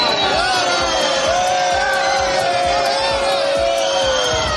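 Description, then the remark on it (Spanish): A large crowd at a Madrid bullring, at the Asociación de la Prensa bullfight closing the Feria de San Isidro, roars with sustained booing and jeering at Culture Minister Miquel Iceta, a dense wall of voices with rising and falling shouts that stays loud and steady throughout. “Lo ha hecho, por cierto, en compañía del ministro de Cultura, Miquel Iceta, que ha sido recibido con abucheos.”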